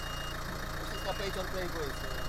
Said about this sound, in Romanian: Ia uite, chiar vine o mașină acum, un 4x4.